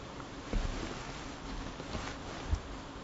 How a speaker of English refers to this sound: You hear the rain?